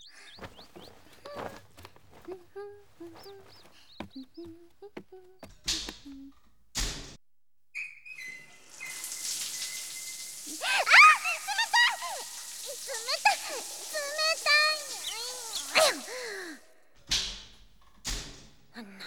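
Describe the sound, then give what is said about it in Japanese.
A shower runs with a steady, close hiss of spraying water for several seconds. It follows a few knocks and clicks, and warbling, chirpy tones play over the spray. “シャワーでまびよっと。”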